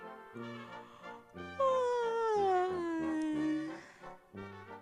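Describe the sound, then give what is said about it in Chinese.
A long, drawn-out yawn, for the little rabbit Carlos just waking up in the morning in a read-aloud picture book, slides steadily downward in pitch for about two seconds. It is loud and stands out over soft, steady background music. “今天早上，小兔子卡洛斯刚刚睡醒觉，他呀就打了一个哈欠。”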